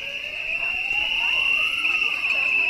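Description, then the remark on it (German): At a protest by several hundred Real supermarket employees from across NRW outside the Düsseldorf Stadthalle, Germany, a shrill, unbroken whistle blast holds steady throughout, while lower siren wails rise and fall beneath it, with a loud, dense hubbub of voices underneath. “Mit Trillerpfeifen, Sirenen und Lautsprechern sind einige hundert Realmitarbeiter aus allen Teilen von NRW nach Düsseldorf gekommen.”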